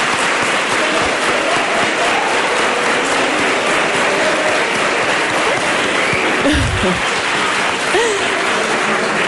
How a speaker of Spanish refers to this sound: Oye, qué calladitos están, Un aplauso, para que se note.